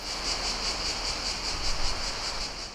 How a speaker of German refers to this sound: dazu das stetige Singen der Cigale, der Zikaden.